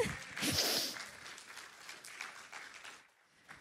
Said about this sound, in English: All kinds of, yeah, clap if you're going to clap.